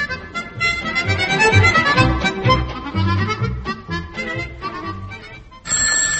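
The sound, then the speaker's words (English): A loud, bright telephone bell starts ringing near the end, a steady metallic trill cutting in after several seconds of busy, tuneful music with a low bass line. “They are convinced it was George Stephenson because the only thing they ever get out of a phone is a rocket. Today is no exception.”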